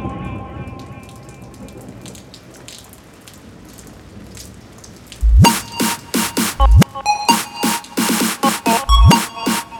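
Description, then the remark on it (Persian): Steady rain falls with a soft, dense hiss beneath quiet music, then loud, sharp rhythmic hits and a fuller band burst in over the second half. “چه بارونی چه بارونی.”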